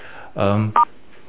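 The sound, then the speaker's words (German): A short voiced sound is followed right away by a quick, clear, distinct telephone keypad beep as star and 6 are pressed to mute or unmute the phone, then quiet. “Das heißt, alle, die jetzt sich stumm schalten wollen, machen das mit der Sterntaste 6 und wenn sie euch wieder dann einbringen wollt, wieder mit der Sterntaste 6.”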